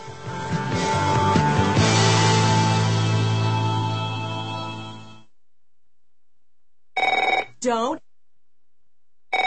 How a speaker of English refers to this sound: Don't answer it. If fear strikes your heart when the phone rings, knowing it may be another bill collector, it's time for you to call